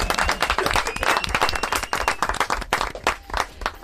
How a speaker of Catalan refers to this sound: Fort aplaudiment.